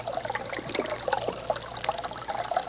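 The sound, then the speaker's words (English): A brook trickles and babbles steadily, a continuous bubbling flow of water at moderate loudness with a faint low hum underneath and no voices. It is the brook from which moonshiners draw branch water for an illegal still. “This is the brook from which the moonshiners get their branch water.”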